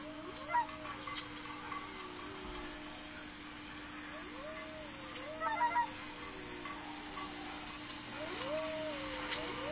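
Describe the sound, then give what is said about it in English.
Wailing, swooping bird calls repeat every few seconds across an open outdoor soundscape in the far north of Alaska, carried over a steady low hum with scattered faint chirps in the background. “And of course, the year's different in the far north, so you'll hear birds migrate from one part of Alaska to the other.”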